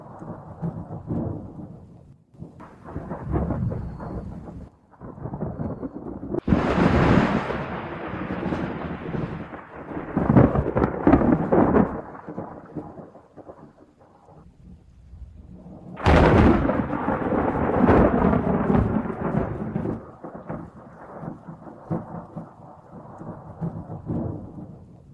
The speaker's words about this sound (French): L'orage avait cédé, s'était éloigné vers le sud.